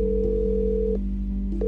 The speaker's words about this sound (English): But our calls went unanswered.